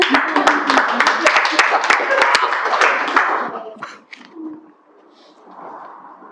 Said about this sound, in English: Yeah, Jesus. Amen. Yeah. You can clap.